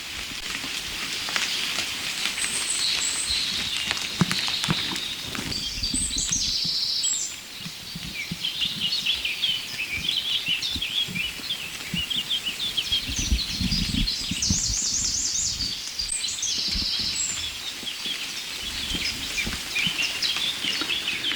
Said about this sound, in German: Ich hangel nicht mehr zum nächsten Rotkehlchen und lass das Duett zwischen den roten kleinen Zweigsängern und der singenden Drossel links hinter mir.